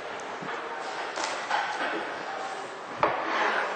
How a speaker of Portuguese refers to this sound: Bom, agora eu vou cortar o alho. Vou usar aqui umas 4 dentes de alho só. Para descascar o alho, eu vou cortar o batente dele.